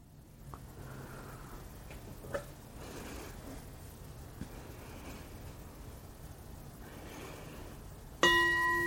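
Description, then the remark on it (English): After several seconds of quiet with faint breathing, a meditation bell is struck once near the end to close a meditation session, its clear, bright tone ringing out and sustaining. “So when I ring the bell, you might take a couple of deep breaths before opening your eyes.”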